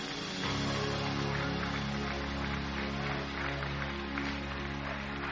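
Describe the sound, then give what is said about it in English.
An audience claps along in a steady rhythm to praise the Lord over loud, sustained music with a deep, droning bass, the hand claps blending into a continuous bright patter beneath the tones. “Give him a hand clap tonight and praise him.”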